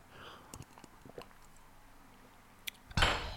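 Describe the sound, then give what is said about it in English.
A quick sip of water: a few faint wet clicks and a soft tap of a glass, then a brief louder gulp or breath at the end. Quiet, with no talking. “So just take a quick sip of water.”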